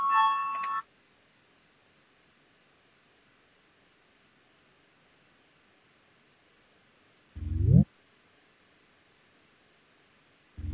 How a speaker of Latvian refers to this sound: Lūdzu zvanu balsosim par 59. Deputātas Papules priekšlikumu. Lūdzu balsosim.